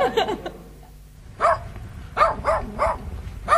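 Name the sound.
dogs barking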